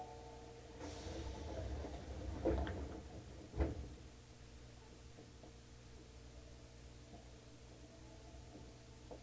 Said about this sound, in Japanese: 谷町九丁目。谷町九丁目。千日前線、近鉄線は乗り換えです。左側の扉が開きます。ご注意ください。